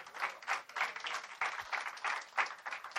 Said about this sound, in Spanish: Dele un aplauso a Dios porque Él nos bendice. Déselo.